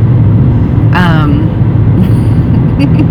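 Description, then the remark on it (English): Steady, loud low road rumble from inside a moving car fills the whole stretch, with a brief voice sound rising over it near the start. “But occasionally, I find myself in the car by myself.”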